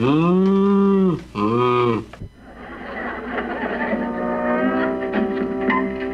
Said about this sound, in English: Jan, what's that? The cow.